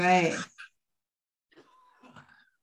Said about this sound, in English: I'm sorry about the cough. That's okay. We've all got... I'm step away for 1 second and get a good cough and then come back.